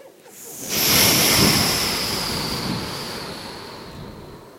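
A single ocean wave rolls in and breaks on the shore, a broad hissing wash of surf that swells quickly, then slowly fades as the water spreads up the beach. No voices.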